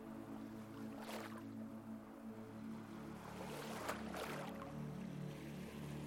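nature, sea waves

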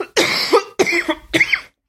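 human body sound, cough

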